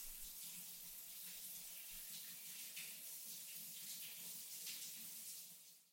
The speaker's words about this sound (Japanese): 一回シャワーで流そうねー